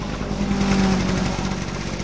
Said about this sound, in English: The sound of rain has also brought the return of another sound, lawnmowers.